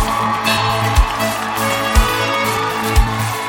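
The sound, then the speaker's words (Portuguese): A crowd applauds and cheers a band in a steady, dense wash of clapping, while a deep thump lands about once a second underneath, like a kick drum keeping time. “Uma salva de palmas pra essa banda que é muito top.”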